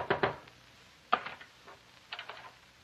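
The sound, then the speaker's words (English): Sharp knocks on the door of a doctor's house come in short bursts separated by pauses: a quick pair, a single rap followed by softer taps, then another small cluster. Moderately loud, with no talking. “Is anybody home? Oh, please come to the door.”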